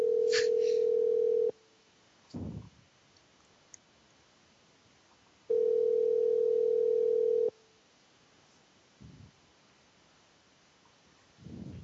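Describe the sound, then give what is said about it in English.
A telephone ringback tone sounds twice, each steady buzzing ring lasting about two seconds with a long pause between, loud and clear, with a few soft low thumps in the gaps. “It's ringing.”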